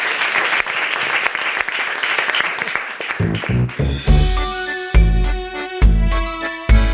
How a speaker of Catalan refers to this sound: Fort aplaudiment per ella.